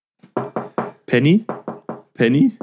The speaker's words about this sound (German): Und wenn es nur ein Gegenschnipsen ist oder sonst irgendwas, du läufst und dann klopfst du irgendwo gegen oder so, sowas.